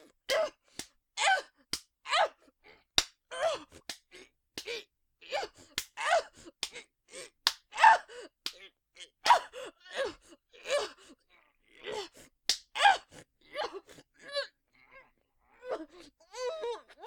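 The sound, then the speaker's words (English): Sharp, crisp slapping hits land again and again at an uneven pace, each followed by gasps, groans and pained vocal sounds; no words are spoken. “Yes, slap me as much as you want.”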